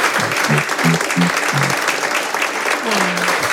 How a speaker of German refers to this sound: Und deswegen gibt es einen extra tosenden Applaus für Dr. Paul. Vielen Dank.